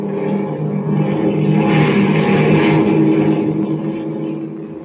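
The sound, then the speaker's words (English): A propeller airplane engine drones steadily in flight, loud, with a deep, even rumble that swells slightly in the middle and never breaks. The plane carries Kent and Lois Lane, following another plane. No voices are heard. “As our story continues today, Kent and Lois Lane, star girl reporter, are following in the next plane.”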